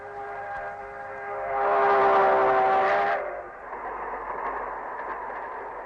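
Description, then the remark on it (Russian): A train rolls past with a long, steady whistle that swells loud for a few seconds, then cuts off, leaving the continuous rumble and clatter of the cars. “А как вспомню 45-й год, год Победы, снова в глазах поезда. Только едут солдаты домой.”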